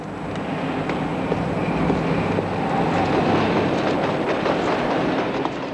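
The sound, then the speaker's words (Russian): A Paris metro train rumbles steadily across an elevated viaduct over the Seine, on the upper metro deck above a bridge for cars and pedestrians: a dense, continuous roar of wheels and rails with faint rhythmic clatter, sustained throughout. “Итак, виадук через Сену. Сверху метромост, снизу мост для машин и пешеходов.”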